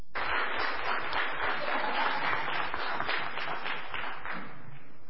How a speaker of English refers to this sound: Why are you applauding before the sermon? That's dangerous.